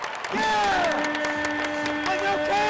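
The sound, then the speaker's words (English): A fan yells loudly in one long, drawn-out shout that wavers in pitch, rising above the steady roar of a basketball arena crowd at a Racer game; the fan is a family member shouting instructions to the players from the family's seats. “surround the seat that bears his nickname, shouting instructions to the players by name and jumping out of their seats each time a ball sinks into the right basket.”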